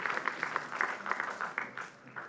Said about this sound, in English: Just put a little golf clap on it.